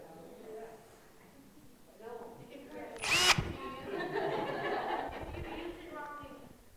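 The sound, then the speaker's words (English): A power drill gives a short, loud, high-pitched whir, then winds down. People are talking and chuckling around it. “Is a drill a good thing?”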